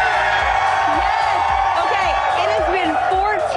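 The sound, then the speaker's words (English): A dense crowd of Buffalo Sabres hockey fans cheering and whooping in Buffalo during the Stanley Cup playoffs, with loud overlapping shouts and rising yells that hold steady throughout. “I am here surrounded by some of the most diehard Sabres fans you will ever find.”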